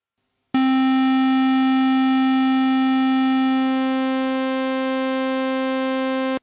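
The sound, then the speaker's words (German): A loud, buzzy synthesized square wave holds one steady pitch for about six seconds while a sawtooth wave fades in, subtly shifting the tone's timbre before it cuts off. “Aber wir können mal das Rechteck einfach so machen und den Sägezahn langsam lauter machen.”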